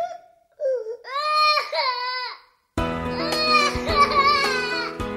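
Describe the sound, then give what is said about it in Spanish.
A child wails in drawn-out, pitched sobs, then a second child starts crying and the two loud cries overlap in a continuous tearful chorus. “Vamos a ver si van a seguir llorando los dos, ¿ok?”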